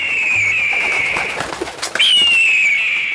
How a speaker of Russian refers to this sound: Вдруг раздался грозный клёкот, и прямо перед Гешкой приземлилась огромная птица.